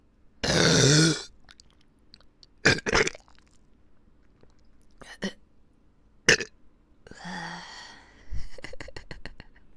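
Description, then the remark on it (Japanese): Several loud burps in bursts, heard in both ears: a long rumbling one, then shorter sharp ones spaced out, with a drawn-out belch near the end and quiet gaps between. “中にゲップ入ってます。両耳からゲップ攻めされちゃうよ。”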